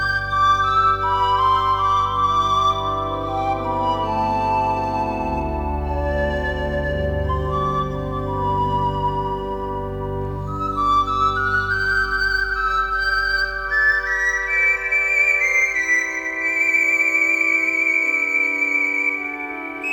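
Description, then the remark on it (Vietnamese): A breathy shepherd's flute plays a slow, winding melody over a steady low drone, clear, with long held notes that gradually climb higher. No one speaks. “Nhưng khi dừng lại thì chỉ nghe dư âm tiếng sáo mục đồng lẫn trong tiếng thì thào của những làn gió nhẹ.”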